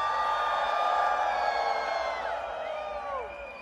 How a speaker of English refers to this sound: 80,000 people here tonight. Put your lights up. Put your fucking lights up. Put your lights up. Put your fucking lights up. Put your lights up. Everyone light it up right now and scream!